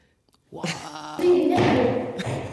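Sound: goat bleating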